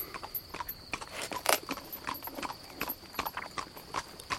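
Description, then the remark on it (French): Horse hooves clip-clop at a steady walking pace, a continuous run of sharp, hollow hoofbeats at moderate volume with no one speaking, and a faint high jingle running through the background. “Avec mon cheval.”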